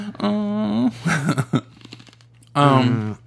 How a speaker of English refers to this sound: Only because you're chewing your ice.